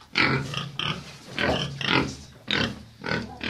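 pigs grunting

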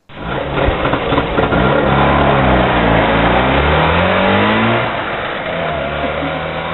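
trabant car engine revving

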